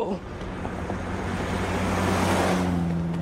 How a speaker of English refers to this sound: There was the car. I was ahead of the car.